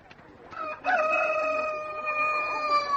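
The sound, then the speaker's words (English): A rooster crows once, a loud sustained cock-a-doodle-doo starting with a short sharp call and holding a long, strained tonal note, over faint background noise; it is one of a small group of young chickens that had been thought to be hens. “One of the chooks crowed.”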